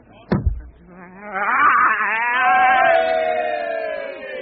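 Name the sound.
sheep bleating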